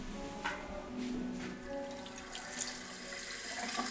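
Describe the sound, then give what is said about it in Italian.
Water runs steadily as a body scrub is rinsed off during a massage treatment: a continuous hissing splash with soft shifting spatters and a few brief clinks. No one speaks. “Adesso togliamo lo scrub con l'acqua.”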